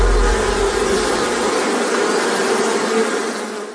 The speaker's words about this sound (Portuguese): sabe qual é o animal mais perigoso do mundo? É um mosquito. Ele pode transmitir a dengue, zika, chikungunya.